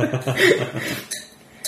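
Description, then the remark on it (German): A bottle is worked open with a squeaky, rubbing cork sound, followed by a couple of short sharp clicks near the end. A voice murmurs briefly underneath. “Ja, hier, es quietscht.”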